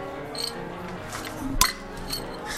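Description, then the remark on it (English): A single short clink as a mug and a plastic pencil holder that looks like a mug knock together in a toast, a brief dull ring rather than a bright chime, with faint background noise and murmuring voices around it. “Oh, I didn't really get a good clank.”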